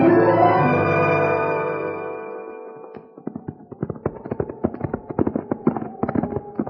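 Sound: horses' hooves clip-clopping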